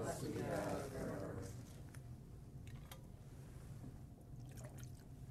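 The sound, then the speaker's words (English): A short splash of water poured into a chalice of wine during the offertory at Mass for about a second, followed by a few faint clinks and drips against a low, hushed murmur. “For the mystery of this water and this wine, may we come to share in the divinity of Christ, who humbled himself to share in our humanity.”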